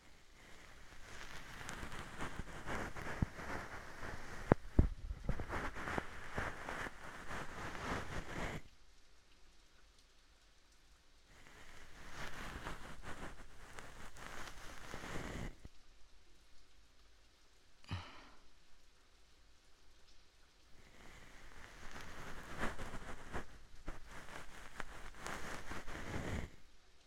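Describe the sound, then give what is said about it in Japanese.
Dense rustling of a fluffy bonten ear-cleaning brush sweeping against the ear as the final finishing step, coming in several long, steady bursts separated by quieter pauses, with no talking. “さて、では最後ですね。梵天で仕上げます。”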